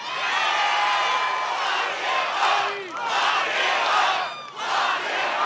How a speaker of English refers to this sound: Trump's crowds will chant, lock them up, about anyone now. You could be Hillary Clinton or the ultra-conservative governor of Georgia. Doesn't matter. If you cross Trump, they want you in jail.